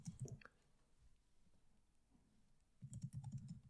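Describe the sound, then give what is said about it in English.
Quick bursts of computer keyboard typing, fairly quiet, with a short pause between two flurries of rapid key clicks, as a long video game title is typed in. “Yeah, you guys enjoy me typing.”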